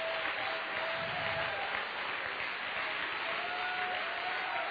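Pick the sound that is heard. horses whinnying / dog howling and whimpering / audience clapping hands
audience clapping hands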